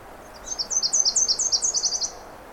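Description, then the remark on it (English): A small ground-nesting songbird sings a rapid series of about a dozen high, sweet chirping notes in a steady rhythm, clear, over quiet outdoor background with no talking. “They're usually ground nesters or very, very close to the ground. That's his song.”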